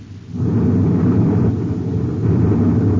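A loud sci-fi explosion of cosmic torpedoes fired by a pursuing spaceship: a deep, roaring rumble that swells in after a brief moment and booms steadily for a few seconds, heavy in the low end, with no voices.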